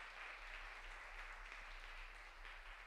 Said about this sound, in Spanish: ¿Alguien dice amén? Dele un buen fuerte aplauso al Señor.